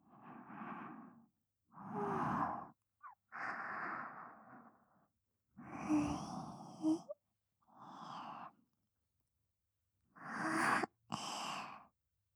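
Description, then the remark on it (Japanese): A person yawns, a run of breathy, drawn-out inhales and sighing exhales separated by short silent pauses, with no speech. “ご主人様のあくび、”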